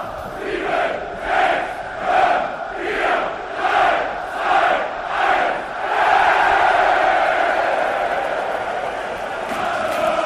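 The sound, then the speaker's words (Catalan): A large crowd of football fans chants in loud, rhythmic bursts, about six repeated shouted phrases, then merges into a sustained roar of hostile yelling, hateful shouts aimed at Leipzig and its supporters. “S'ho van prendre molt seriosament, i escolteu després com ja comencen a animar amb contundència dirigint crits d'odi al Leipzig i a la seva afició.”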